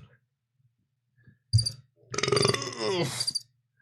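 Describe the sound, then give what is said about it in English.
A long, loud, rumbling burp from a man lasting over a second, coming right after a short thump, against an otherwise quiet background with no talking. “Oh, he just burped, chat.”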